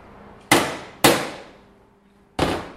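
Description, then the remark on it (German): A tray mould of freshly made oval dark chocolate pralines of Mexican cocoa, decorated with an Aztec motif, is knocked sharply against a small wooden board three times: two loud, crisp raps in quick succession, a short pause, then a third. No one speaks. “klopft eine Palette mit dunklen Schokoladenpralinen auf einem Brettchen aus.”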